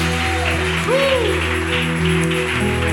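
A church audience claps for Jesus during worship in a dense, continuous wash of applause, with sustained keyboard-like music tones and a brief sliding pitch running underneath.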